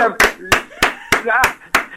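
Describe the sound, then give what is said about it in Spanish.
Two people clap in a steady, loud rhythm, about seven sharp claps spaced evenly, while a voice talks between and under them. “Otro fuerte aplauso. ¿Cuántas personas hay ahí? ¿Dos? Dos.”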